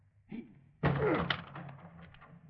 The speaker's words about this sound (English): The door's locked. We'll have to break it in. Okay. All together.